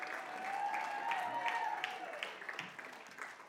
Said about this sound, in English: Can you guys give this band and our tech team a round of applause?